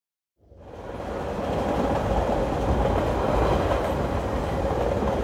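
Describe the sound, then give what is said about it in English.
A train rumbles along the rails with a steady, fairly loud roar and faint clickety-clack, starting after a brief silence and holding constant throughout, with no voices. “Mrs. Medlock and Mary travelled to her uncle's house by train.”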